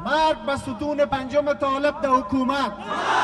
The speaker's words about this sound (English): This week, hundreds of supporters marched through Kabul shouting death to Pakistan, death to the Taliban, and death to President Hamid Karzai, among many others.